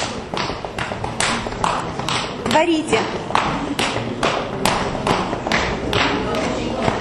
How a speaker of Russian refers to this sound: Одну стопу простучали, другую стопу простучали. Прямо кулачком простучите. Аккуратненько только.